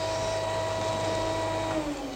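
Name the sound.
vacuum cleaner running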